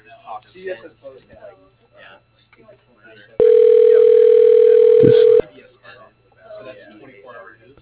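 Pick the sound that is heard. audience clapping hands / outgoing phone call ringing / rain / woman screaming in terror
outgoing phone call ringing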